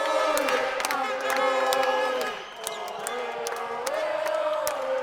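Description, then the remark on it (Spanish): A crowd of Colombians shouts and cheers continuously, celebrating a triumph at the Copa América in Quito. Overlapping voices and sharp whoops briefly dip in loudness near the middle before swelling again, punctuated by short clapping or thumping bursts. “Esos gritos describen la emoción de los colombianos, porque en Quito lograron un triunfo muy importante.”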